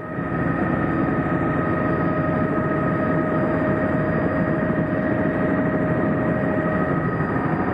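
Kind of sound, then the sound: vehicle, helicopter rotor blades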